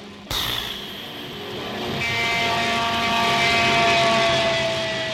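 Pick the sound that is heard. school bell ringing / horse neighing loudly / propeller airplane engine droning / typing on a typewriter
propeller airplane engine droning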